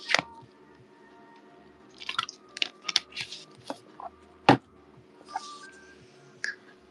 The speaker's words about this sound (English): Well, let me drink some water again.